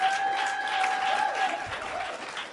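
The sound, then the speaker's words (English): Steady audience applause in honor of women fills the whole stretch, a dense wash of many hands clapping at a fairly even loudness, with a thin high tone sustained through the first part. “Let's clap for a woman.”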